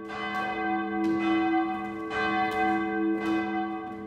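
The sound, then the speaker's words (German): A large historic church bell from Pišť, near the Polish border, tolls repeatedly in the bell tower of St. Johannes Evangelist church in Sulz am Neckar, Baden-Württemberg, in a steady rhythm, each strike bright and metallic with a long, humming resonance that overlaps the next. No voices are heard. “Die Glocke aus Pišť hängt seit vielen Jahrzehnten in Baden-Württemberg im Glockenturm der Kirche St. Johannes Evangelist in Sulz am Neckar.”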